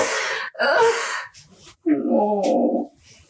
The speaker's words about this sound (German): Oh Gott, jetzt muss ich wirklich weinen.